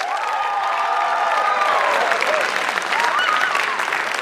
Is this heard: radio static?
no